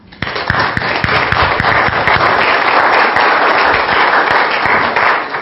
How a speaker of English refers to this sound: We all owe him a wonderful round of applause and thank you.